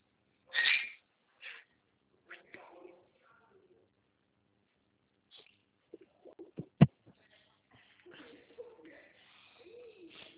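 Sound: parrot vocalizing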